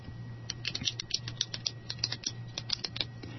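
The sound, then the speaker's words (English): A pen clicked over and over in quick, slightly uneven succession, sharp little snaps, with a faint low hum underneath and no voices. “I love the sound that a clicking pen makes, don't you?”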